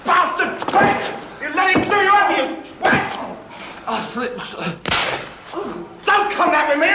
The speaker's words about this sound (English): Sands slaps him hard again, and Banks slides down the wall unconscious, leaving a trail of blood.